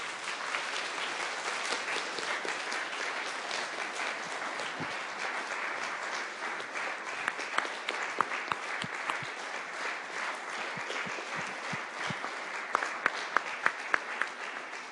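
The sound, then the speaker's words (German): Sustained applause from an audience for first-graders starting school, a dense, steady wash of many hands clapping for about fifteen seconds, with a few sharper, louder claps standing out near the end. “Wollen wir den Erstklässlern noch einen ganz großen Applaus geben?”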